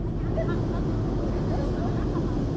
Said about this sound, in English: From a boat meandering by construction sites on the new canal Sunday, giant waterspouts are seen slowly raising the level of the waterway. The boat is provided by the Suez Canal Authority to promote the project.